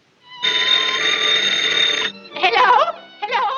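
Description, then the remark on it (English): A telephone bell rings in one long, steady, bright burst lasting over a second, then gives way to two shorter, warbling bursts after a brief pause, as a grandmother in a played radio scene makes a phone call to the grocer. “And then she makes a phone call, and this is what she asks for on the phone.”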